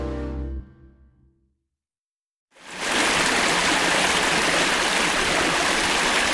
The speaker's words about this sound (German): Der Lonkamper Bach. Nach kurvenreicher Fahrt durch menschenleere grüne Serpentinen haben wir ihn endlich in diesem entlegenen Tal gefunden.